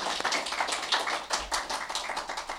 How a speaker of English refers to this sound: So they enrich our communities, and I want to acknowledge that and give them a round of applause. Thank you.